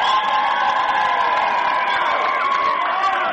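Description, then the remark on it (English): A dense roar of crowd cheering at a basketball game involving Hoonah fills the whole stretch, steady and loud with overlapping shouts and whoops, no clear individual voices standing out. “And, yeah, this game is, you can hear the crowd. They're starting to get more and more into it as it's coming along, too.”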